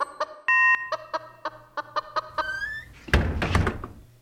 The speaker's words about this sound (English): That's a chicken. But a very well-trained chicken, Mr. Bell. Watch, there she goes towards the button.